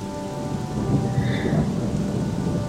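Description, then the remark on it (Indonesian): Heavy rain pours down steadily at night, around 11 pm, a dense, continuous wash of hiss with a low rumbling undertone throughout, loud, with no voices. “Lagi-lagi hujan cukup deras turunnya.”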